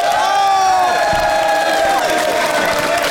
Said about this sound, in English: made the best case, please applaud now.